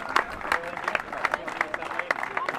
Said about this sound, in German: Am 5. Tag naht die Erlösung. Die letzte Kontrollstelle noch und bald schon kommen die Dächer von Abisku durch den lichten Birkenwald in Sicht. Zieleinlauf unter großem Jubel.